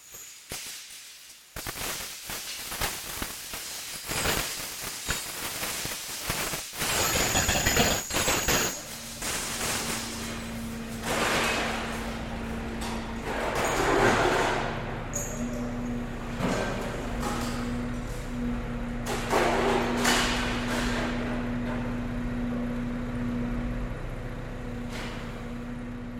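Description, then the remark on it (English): Heavy metal chains clatter and rumble in dense, irregular bursts, loud, with a low mechanical engine hum joining partway through and persisting under the continuing clanks. “Chains rumble.”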